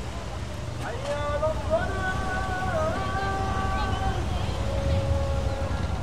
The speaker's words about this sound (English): The sun's gone down, the moon's up, it's a beautiful balmy evening. The bougainvillea's out, lovely colours. Very pleasant breeze, I have to say, after a hot day, and nice to be outside of the intensity of the hotel.